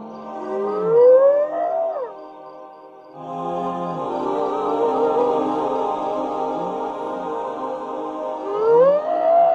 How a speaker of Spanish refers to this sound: Súbitamente, como un coro animal perfectamente orquestado, empezaron a escucharse las llamadas de las hienas.